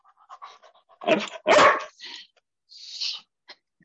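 A dog barks twice, loud, amid softer short yips, followed by a breathy panting or whining sound and a final small yelp. No one speaks.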